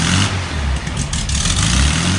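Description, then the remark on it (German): An old Volkswagen Beetle engine, a German model, runs loud, a rough, chugging air-cooled rumble that holds steady for a couple of seconds with no voices. “Aber ein schöner alter Käfer ist es.”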